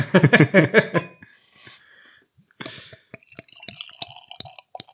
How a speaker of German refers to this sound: Und zwar heute gibt's was Hobgoblin Ruby Beer von der Witchwood Brewery. Und wir lassen uns jetzt einfach hier mal in unser Craft Beer Glas reingleiten.